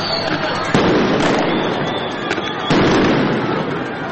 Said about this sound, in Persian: رسانه‌ها گزارش دادند که افسران فدرال در مرکز شهر در تلاش برای متفرق کردن معترضان اقدام به پرتاب گلوله‌های گاز اشکاور کردند.